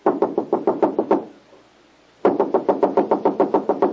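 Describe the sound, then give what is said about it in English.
Rapid knocking on a door, a run of about eight sharp raps, a pause of roughly a second, then another longer burst of about a dozen knocks, fairly loud with no talking. “Wait, I'll knock on the door.”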